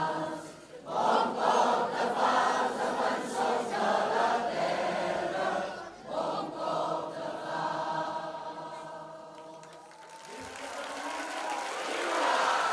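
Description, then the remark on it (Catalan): Final applause at a gathering in Catalonia: a large crowd roars and claps, with voices joining in rhythmic, sustained chanting of "Som gent de pau" and "els carrers seran sempre nostres". The dense, loud noise briefly thins and then swells again near the end. “Els aplaudiments finals es van combinar amb els crits de Som gent de pau i els carrers seran sempre nostres.”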